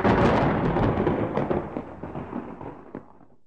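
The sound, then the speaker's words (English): A loud rumble of thunder rolls and crackles, then slowly fades over a few seconds against a steady wash of heavy rain, during a storm with lightning flashes and wind blowing trees around. No one speaks. “It was raining really hard. I could see the shadows of trees that were being blown around by the wind.”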